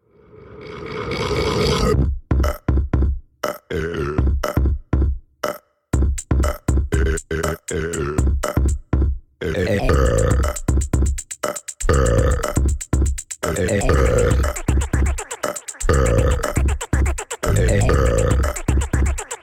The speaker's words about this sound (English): Every single sound that you're about to hear is a burp. It was like either pitched up or down or whatever. I don't understand how music works. It's a bop. It's a burp bop. And we just want to play this 1 minute song for you.